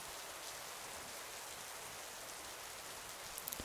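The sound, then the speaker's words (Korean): Steady, heavy rain falls outside continuously with a dense, even hiss, a few slightly sharper drops near the end; no voices, just the soft, constant wash of rainfall. “낮에는 안 올 것처럼 해가 쨍쨍했는데 갑자기 또 비가 내리기 시작했어.”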